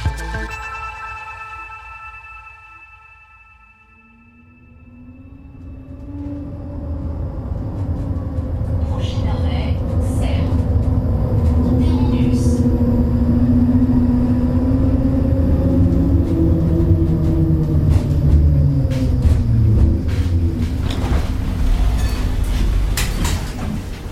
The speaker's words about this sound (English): stepping off the tram that takes you from central Geneva to the main entrance of CERN, you could easily miss the fact that this is where thousands of scientists are hard at work, building the future of physics.